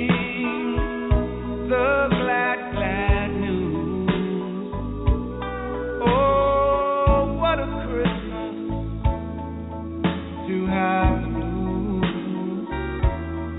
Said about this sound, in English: In the meantime, we can do another Christmas tune.